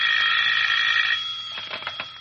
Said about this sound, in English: As I came up the stairs, I heard my phone ringing.